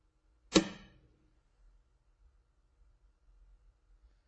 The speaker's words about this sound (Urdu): اب میں اس انڈے کو اسی بلندی سے اس میز کے اوپر گراتا ہوں اور اب دیکھیں کہ کیا ہوتا.